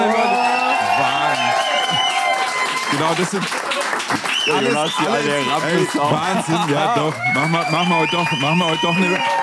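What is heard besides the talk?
audience cheering and applauding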